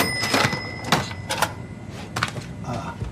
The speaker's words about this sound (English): Oh, I'm just listening to the sound of the cash register. the ringing and the drawer closing. And That's anachronism, isn't it? Yeah, absolutely.